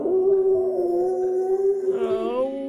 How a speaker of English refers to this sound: And so you race back to town, but you hear a howl in the distance.